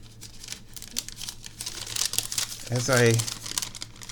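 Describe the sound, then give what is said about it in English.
Steady crinkling and crackling of paper being peeled back off a baked item just lifted out of its pan, with irregular bursts of rustling throughout and a brief voiced sound near the end. “Is it peeling off of the paper?”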